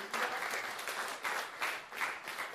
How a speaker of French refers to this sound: Vous pouvez applaudir le Seigneur parce que c'est pas moi, c'est lui.